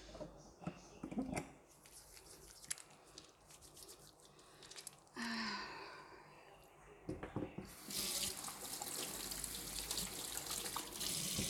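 A tap runs in bursts as hands are rubbed and rinsed, with clinks and splashes, then the water gushes steadily and loudly for the last few seconds.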